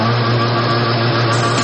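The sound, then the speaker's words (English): A boat's outboard motor throttles up and roars steadily, with a loud, buzzing drone and a low hum that hold even throughout, brightening slightly near the end. No voices are heard. “How about throttle up, open her up, and cruise through the waters?”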